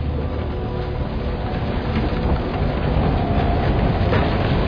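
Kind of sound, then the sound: vehicle, subway train passing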